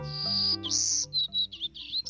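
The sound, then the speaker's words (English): A golden-cheeked warbler, a small black-and-yellow bird with a yellow face, black throat and white belly, sings alone in the trees: a long, high, buzzy opening phrase followed by several shorter, wheezy buzzing notes in quick succession. “No, it's a bird. A golden-cheeked warbler, to be exact.”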